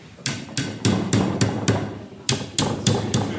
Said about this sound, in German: Ich nehme mal eine Vitrine zusammen, weil das ist so Glas. Da werden Holzstifte eingeschlagen.